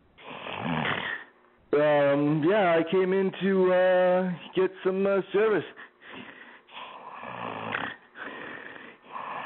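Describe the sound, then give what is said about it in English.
A man talks while making loud, rasping snore-like noises between his words, imitating someone snoring while awake; the harsh, throaty snorts break up his speech. “You ever run into the people that snore and they're fucking awake?”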